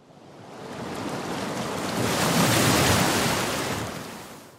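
A heavy ocean wave surges in with a broad roar, swelling to a crash around the middle as it strikes a lighthouse and throws up sprays of water, then slowly washing back out, no voices present.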